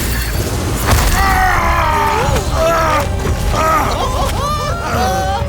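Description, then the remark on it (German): A loud mechanical cannon shot launches a crystal arrow, followed by booming, crashing impacts as it strikes a huge jungle creature that stumbles backward and crashes to the ground, with shrill wavering cries and whistling tones rising over the dense, continuous noise. “Pfeilkanone geladen und Feuer.”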